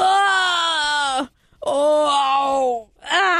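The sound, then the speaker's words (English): A person bending over to reach strawberry plants on the ground under a hot sun lets out three drawn-out, strained groans in quick succession, loud, each voiced moan sliding slightly in pitch with brief pauses between them. “And although the toddlers have no problem dropping to their knees to the floor, I make noises like this every time I bend over.”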